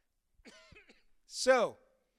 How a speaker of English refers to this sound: And I'm sorry. I would be talking better if I wasn't about to cough.